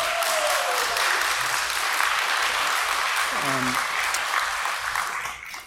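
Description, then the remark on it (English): An audience breaks into steady, dense applause honoring a young man who has just graduated as a sheriff's deputy, holding for several seconds, a brief vocal whoop rising through the clapping midway, before the sound begins to taper off at the end. “You don't have to clap if you want to.”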